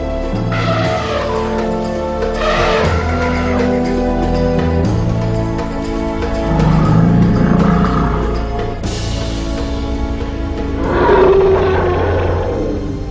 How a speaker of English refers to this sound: Their huge bodies are almost the size of a one-story house. An elephant weighs approximately as much as 50 people and normally lives to be 70 years old.